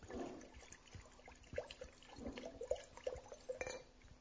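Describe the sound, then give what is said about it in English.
Water splashes and gurgles steadily as it is poured into big water jugs, a continuous liquid rush with bubbly glugs, with no voices. “So they took the big water jugs and they poured water.”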